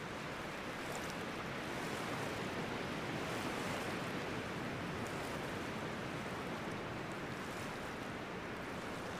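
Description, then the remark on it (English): A steady, gentle wash of shallow water along a still loch side with a soft breeze blowing across it as a young woman walks through the shallows, a continuous hushed texture that stays even throughout, with no voices. “The gentle breeze, blowing her long blonde hair softly whilst traversing the shallows.”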